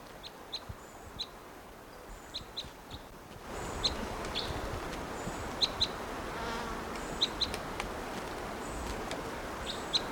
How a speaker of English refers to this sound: Here's that bird again.